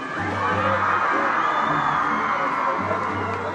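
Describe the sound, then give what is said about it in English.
A large crowd of Colombian faithful cheers and whoops continuously at Bogota Airport, Colombia, as Pope Francis arrives, a dense wash of many voices at steady loudness, with a low hum running underneath. “Greeting him on the tarmac at Bogota Airport was the country's president, Juan Manuel Santos, as well as crowds of Colombian faithful.”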